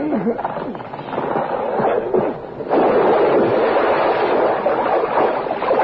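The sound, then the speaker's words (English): A truck shoved by two men rolls into water and submerges, with a dense, rumbling churn of splashing and gurgling that surges louder partway through and stays steady to the end. “Both men shove the truck toward the water.”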